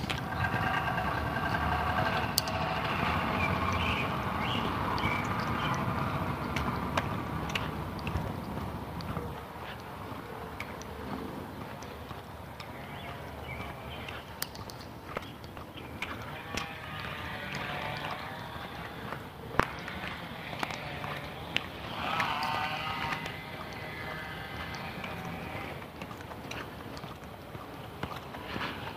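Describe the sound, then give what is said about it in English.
A chainsaw or weed whacker buzzes steadily throughout, its high, raspy engine note revving up and easing off in uneven surges over a low background rumble. “Sounds like a chainsaw, but maybe a weed whacker.”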